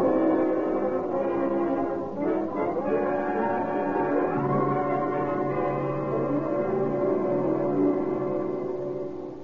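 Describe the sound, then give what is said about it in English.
A siren wails continuously, its pitch gliding up and down over a dense, steady hiss of a driving rainstorm at nightfall, as Deputy Sheriff Douglas Webb and Grover Mull speed through the night. Both sounds stay loud throughout, with no voices. “The scream of a siren knifed through the din of a driving rainstorm as Deputy Sheriff Douglas Webb and Grover Mull sped through the gathering night.”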